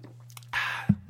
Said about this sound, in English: I'm going to sip my water.